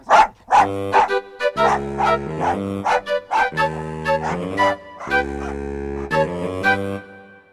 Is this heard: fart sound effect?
no